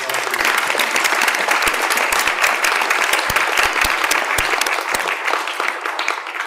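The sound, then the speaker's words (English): An audience applauds the sponsors at the VCU Cabell First Novelist Award event, in a steady, dense wash of clapping that holds loud and even for several seconds before easing slightly at the end, with no voices over it. “So please, a round of applause to all our sponsors.”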